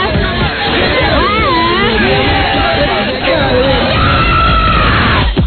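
woman screaming loudly

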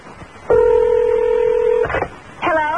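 telephone keypad dialing tones

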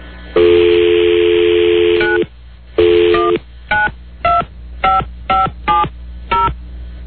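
telephone keypad dialing tones

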